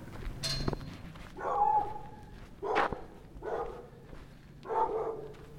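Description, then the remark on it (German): Several dogs bark in a quiet street in the centre of Uyuni at 6 a.m. A handful of separate woofs come a second or so apart, with a faint open-air background and a brief clatter early on. “Es ist 6 Uhr morgens im Zentrum von Uyuni. Es ist still. Auf den Straßen sind nur einige Hunde unterwegs.”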